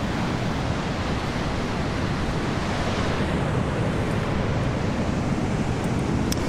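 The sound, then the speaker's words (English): A steady, broad roar of violent Pacific Ocean surf heard from an overlook hundreds of feet above on the Pacific Coast Highway (Route 1), just north of Bodega Bay, California, on a mild day of about 65 to 70 degrees, with wind blending in; no distinct individual wave crashes stand out, and nobody speaks. “So I pulled over onto this escarpment overlook, looking down hundreds of feet to the ocean below, which is really violent and active, and it is a beautiful sight.”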